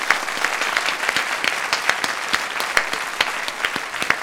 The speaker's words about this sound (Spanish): Un aplauso para ella. Bienvenida, por favor.